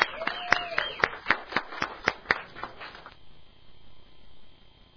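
Sparse, uneven clapping from a gathering: about ten sharp claps over two and a half seconds, with a faint voice early on, then the clapping stops and only quiet background noise remains.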